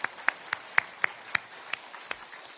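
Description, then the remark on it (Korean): A church audience applauds to welcome newly registered members, with several sharp claps standing out in a steady rhythm over a soft wash of clapping that thins out toward the end. “우리 다 같이 박수로 환영하시겠습니다.”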